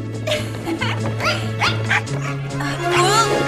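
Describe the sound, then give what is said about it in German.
Several dogs bark and yip excitedly in quick, overlapping bursts as they run after a person, fairly loud, with a steady low hum running underneath. “Die Hunde laufen ihr noch immer hinterher.”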